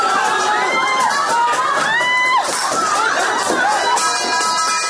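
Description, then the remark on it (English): A chaotic protest clash between activists and police at the Taikoo subway station in Hong Kong: a dense crowd of voices yells and shouts over one another, with rising and falling cries and a steady roar that stays loud throughout. “Today's airport protest was peaceful, but Sunday saw widespread violence between activists and police, like here at the Taikoo subway station.”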